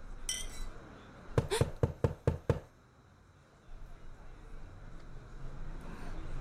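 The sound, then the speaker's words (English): A quick run of about six loud, sharp, evenly spaced knocks on a door, followed by a low, steady background hum. “I know you're in there. Open the door. Don't make me ask you again.”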